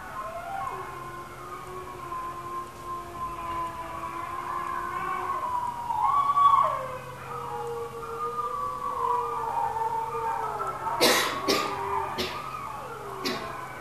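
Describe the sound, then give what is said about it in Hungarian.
Several wolves howl together in overlapping, sliding tones, some voices low and steady, others rising and wavering higher, building into a loud chorus with a few sharp clicks near the end. “Itt a zöld vonal kijelzik, hogy mikor hány farkas szól bele.”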